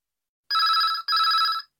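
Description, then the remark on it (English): A telephone rings as a man phones King's Restaurant to inquire about a job vacancy: two long bursts of a bright trilling electronic bell with a short gap between them, heard clearly on its own with silence before. “You will hear a man phoning to inquire about a job vacancy.”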